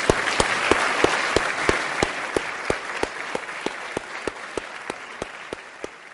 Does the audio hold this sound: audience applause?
yes